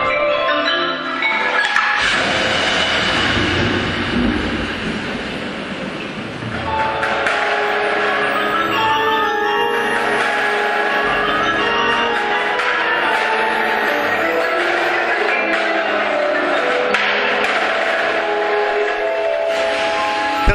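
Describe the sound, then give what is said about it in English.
Crisp snare drum strokes on the rim tap out over the shimmering, sustained wash of a gong, which swells and rings loudly throughout with a bright metallic tone. “Nice timbre there between the snares on the edge and the gong.”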